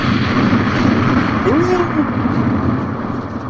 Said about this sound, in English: The most epic explosion in podcast history. Boom!